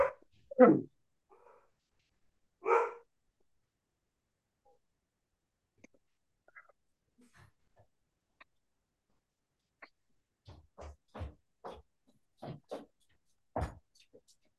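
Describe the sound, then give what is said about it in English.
A dog barks at the postman a couple of times, pauses through a quiet stretch, then lets out a quick run of about six sharp, fairly soft barks. “My dog was barking because of the postman, and you had to go as well.”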